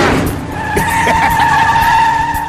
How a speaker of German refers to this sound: Der versuchte vor ihm zu bleiben, aber Lightning überholte innen. Chick wurde wütend und rammte ihn, sodass er von der Strecke schleuderte.